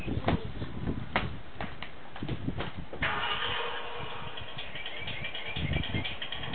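A few sharp knocks and clicks, then a car engine starts up and runs with a steady rumble and whine as the car drives off; no one talks.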